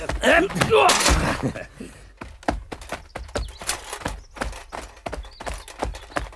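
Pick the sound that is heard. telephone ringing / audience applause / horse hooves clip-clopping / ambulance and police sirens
horse hooves clip-clopping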